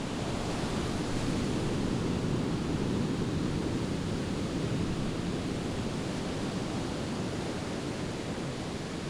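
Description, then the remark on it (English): Steady, continuous roar of ocean surf washing onto Ocean Beach on San Francisco's Pacific coast, a broad rushing wash with no distinct individual wave breaks, loud, with no voices. “Ocean Beach stretches 3.5 miles down SF's Pacific coast.”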